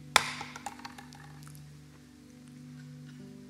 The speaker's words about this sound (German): Ich werde jetzt mal symbolisch diesen Hammer hier für uns alle fallen lassen.